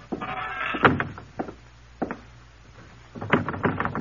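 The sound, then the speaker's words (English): A screen door on the coast of West Africa creaks open with a long, squeaky hinge whine, followed by several light wooden clacks and rattles as it swings and bumps, then more creaking near the end. “2 years later, at the age of 47, he walked through a series of screen doors on the coast of West Africa to begin his life over again.”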